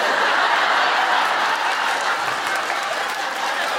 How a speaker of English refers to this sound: Why is that getting a round of applause? I don't understand. What just happened? Is this like when Irish people laugh because I don't know things about Ireland and say them in a funny voice? Is it just me saying Waterford?